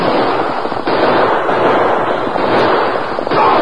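A dense, unbroken barrage of gunshots in a shootout, many sharp cracks overlapping into a loud, harsh crackle that holds steady for several seconds with no voices.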